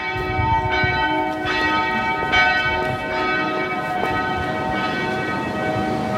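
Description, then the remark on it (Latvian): The Dome church bells peal steadily in the morning, heard from a radio station balcony, with repeated strikes roughly every second blending into a layered, sustained ringing that echoes off surrounding buildings. Nobody speaks. “Zvanu spēle atbalsojas namu sienās visapkārt”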